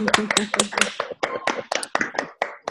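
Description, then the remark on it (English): Scattered applause from a small group of unmuted participants on an online call, a quick run of sharp, uneven claps that thins out toward the end, with a faint voice murmuring at the start. “They are clapping.”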